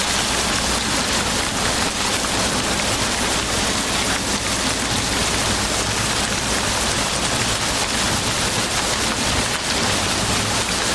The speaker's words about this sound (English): In the matter of a single night, while the storm rages in its fury, the tempest and the thunder of the furious elements in conflict.